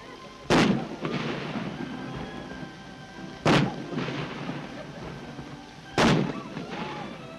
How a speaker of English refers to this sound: In Hyde Park, the King's Troop Royal Horse Artillery fire a salute to the infant prince.